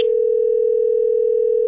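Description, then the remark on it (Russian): A steady, unbroken telephone ringback tone of an unanswered call hums at a single mid-low pitch, loud, with no pauses, voices, or other sounds around it. “Я уже 2 часа на телефоне сижу.”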